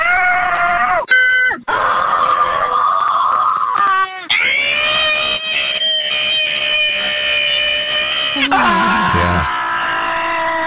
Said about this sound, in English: When I hear people scream like that, I'm just like, oh man, that just hurts my throat.